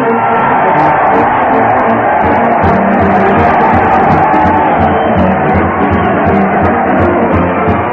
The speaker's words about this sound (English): Yes, sir, listen to that crowd cheering Fred Allen as he heads his weekly parade to the old Town Hall.